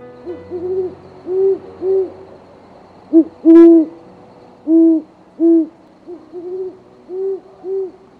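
An owl hoots again and again in a steady, rhythmic series of soft, low calls, clear with no voices or other sounds around it.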